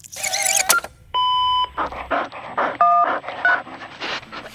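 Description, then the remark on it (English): A dog pants and snuffles in short breathy bursts during an accidental phone call, interrupted twice by steady electronic phone beeps, with no one talking. “I think this was an accidental phone dial from one of those furry four-legged earthlings.”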